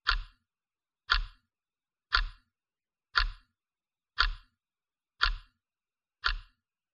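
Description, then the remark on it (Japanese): A clock's second hand ticks seven times at a steady pace of about one per second, each tick crisp and clear against otherwise silent surroundings. “私の声があなたの中に十分染み入ると、どこからか時計の秒針の音が聞こえてきます。”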